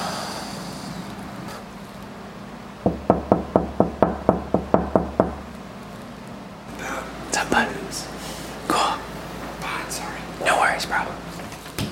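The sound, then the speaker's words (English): About ten quick, evenly spaced knocks rap on a bedroom door, fairly loud, then stop; soft whispering voices and rustling follow afterward. “I guess we should just knock on the door.”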